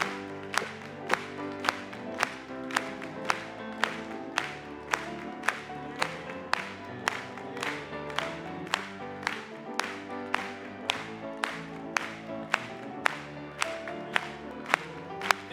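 An audience claps together in a steady, even rhythm, sharp unified claps roughly twice a second, over a continuous musical or sung tone that runs beneath throughout.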